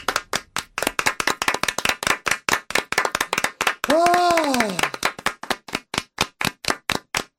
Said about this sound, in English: Oh my God, no, there's still more clapping to do.